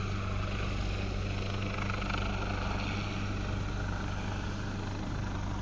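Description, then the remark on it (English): A helicopter hovers over a lake, churning up the water as it comes round to pick up people from the lake, its rotor throbbing with a steady low drone and a broad rushing wash of noise that stays loud and constant throughout, with no voices. “The helicopter's coming round, picking them up.”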